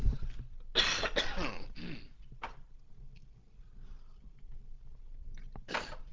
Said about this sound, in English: I'm just going to take these headset off for a second, just have a little cough. It's pardon these human frailties.